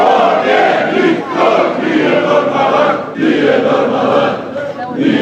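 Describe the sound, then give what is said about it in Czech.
Several hundred fans at Zagreb airport welcome Croatia's returning handball players, who bring a bronze trophy, cheering and chanting loudly and continuously, voices swelling in rhythmic surges with brief dips between waves of shouting. “U zagrebačkoj zračnoj luci dočekalo ih je više stotina razgaljenih navijača.”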